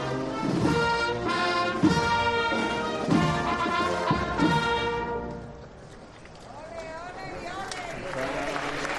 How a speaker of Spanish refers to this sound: Se escuchan los vítores, los oles, sí. Y la ovación obvia.